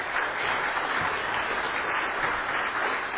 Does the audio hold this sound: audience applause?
yes